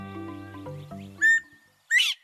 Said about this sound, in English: More than a few birds take their names from the distinctive calls they make. And maybe the most vivid example is the call of the bobwhite. It's the only quail native to eastern North America.